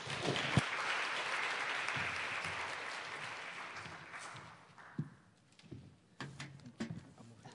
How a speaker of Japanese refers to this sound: それでは、トーマス先生をですね、拍手を持って、迎えたいと思います。